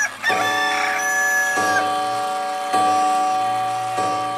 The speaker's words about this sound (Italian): Là, da mezzanotte fino al canto del gallo,